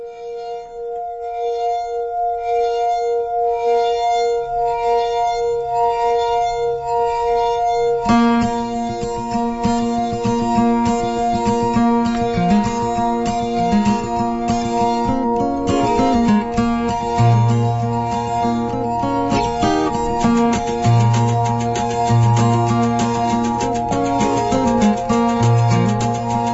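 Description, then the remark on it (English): An instrumental opening of an award-winning folk song by a female artist, from her brand new album: a gentle melody of sustained, ringing tones plays alone before fuller accompaniment joins, with deeper bass notes entering later. No singing or talking is heard. “I have queued up a award-winning song from a woman who I'm kind of enjoying listening to recently, her brand new album,”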